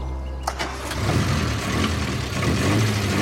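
A car engine turns over with a few sharp clicks, then settles into a steady low rumble that builds slightly as the vehicle pulls away. No one speaks.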